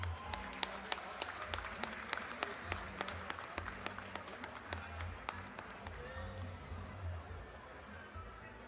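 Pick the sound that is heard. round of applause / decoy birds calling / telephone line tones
round of applause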